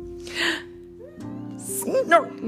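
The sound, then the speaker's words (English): A voice imitates Grandpa's snoring: a long breathy rasp, a pause, then a second noisier snore that ends in a wobbly voiced snort, over a steady low sustained tone. “That's Grandpa's snore.”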